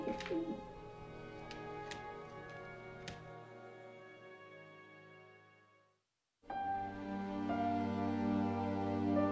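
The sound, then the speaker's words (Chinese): Pigeons across the street, quickly bobbing their heads, coo in low, throaty warbles that roll on steadily, break off into a brief silence, then start up again fairly loud. “街对面的鸽子们很快上下点着脑袋，咕咕直叫。”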